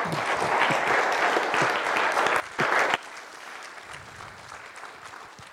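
A crowd applauds with dense, steady clapping for about three seconds, then the applause drops abruptly to a thinner, quieter patter that trails on to the end.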